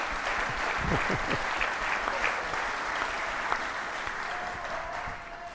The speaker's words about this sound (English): Oh, you got a cheering squad out there. You picked them? You paid them? Okay.